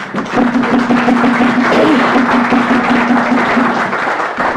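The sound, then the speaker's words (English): Sustained applause from a large crowd in a legislative House chamber, given for a member's 13th wedding anniversary, steady and fairly loud for several seconds, with a faint tonal hum running underneath. “I just wanted to let the body know that my next-door neighbor here sitting next to me told me today is her 13th wedding anniversary, and I think we should give her a round of applause.”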